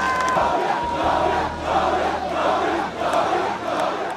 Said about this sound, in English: An emotional George Weah waved to cheering supporters in Monrovia Thursday. The former soccer star has been declared the winner of Liberia's presidential election.